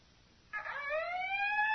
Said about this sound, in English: Howling warnings shrieked through the Maw installation's intercom so monotonously that Tal Sivran found it difficult to plan his emergency speech.